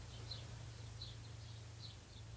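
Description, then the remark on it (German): Faint birds chirping in short repeated bursts, heard through an opened window by someone sitting in a car, over a steady low hum, with no one talking. “Höre ich Vögel bei dir? Bei mir? Ja. Ja, durchaus, ja.”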